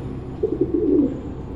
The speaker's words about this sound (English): Christ! What the hell is that? It looks like a black carrier pigeon.